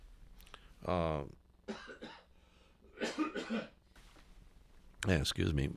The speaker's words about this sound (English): A little cough there.